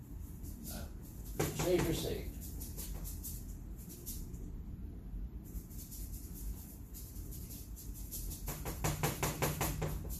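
A wooden easel, built by friends, creaks and clatters as it is set up: bursts of knocking, scraping handling noise with a brief squeak, quieter in the middle, then a run of rapid clicks and bumps.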